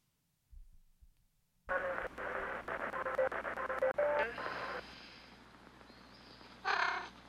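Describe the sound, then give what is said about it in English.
A cat meows loudly, first a long, wavering, slightly raspy call, then after a brief pause a shorter second meow, with no talking. “You're getting familiar, aren't you? I don't have any food, sorry.”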